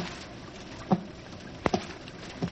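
A few soft, irregular taps on a door, four in all with a quick double knock in the middle, heard over a steady hiss like light rain. No one speaks.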